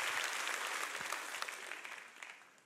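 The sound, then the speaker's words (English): A church audience bursts into sustained applause during a sermon, a dense crackle of many hands clapping at once that stays loud and steady before gradually thinning and fading toward the end. “Clap your hands if you would say amen at every campus.”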